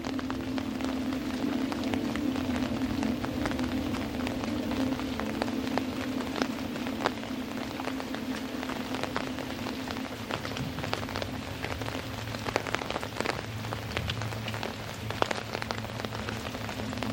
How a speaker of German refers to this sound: Das große Blatt über dir wiegt sich sanft im Abendwind. Und der leuchtende Regen spielt seine gleichmäßige Melodie darauf.